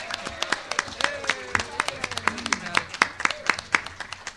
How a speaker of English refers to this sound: You know, it's always nice to come to an applause and not booze. So thank you.